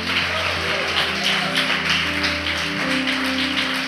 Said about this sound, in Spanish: Bríndale un fuerte aplauso a nuestro Rey. ¡Aleluya!